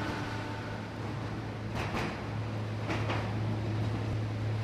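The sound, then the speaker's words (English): A steady low mechanical rumble from an underground mine tram inside Yucca Mountain coming to a stop at a side tunnel, with two brief sharp bursts of brake hiss or clanking partway through, with no voices. “The tram has stopped at a side tunnel where mock waste canisters heated by electricity rather than radiation have been installed to simulate what will happen inside Yucca Mountain when real radioactive waste is stored here.”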